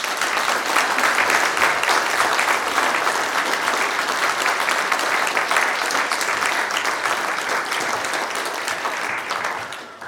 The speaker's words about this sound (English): Friends, will you please welcome our new elders with a round of applause.